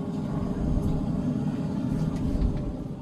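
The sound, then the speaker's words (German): A steady, dense low rumble of big-city traffic, played from an urban-sounds soundtrack installed in a village's only phone booth, fills the whole stretch, engines droning continuously with faint higher hisses drifting through, with no voices and no distinct individual events. “In der einzigen Telefonzelle des Dorfes wurde eine Tonspur mit Urban Sounds installiert. Damit können die Besucher in die Geräuschkulisse einer Großstadt eintauchen.”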